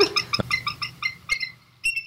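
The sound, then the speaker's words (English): A bald eagle gives a rapid series of thin, high-pitched squealing chirps, about a dozen short notes in quick succession, clear with no talking. “Yeah, instead of, well, bald eagles sound pretty stupid. So what do they sound like? They kind of sound like high-pitched and squealing.”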